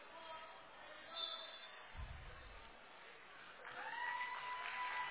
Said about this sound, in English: getting a nice round of applause from her hometown crowd.